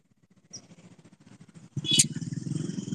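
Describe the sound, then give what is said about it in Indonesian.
A short, high vehicle horn beep cuts through a steady low engine rumble that swells louder partway through, with traffic noise continuing afterward. “Suara klakson.”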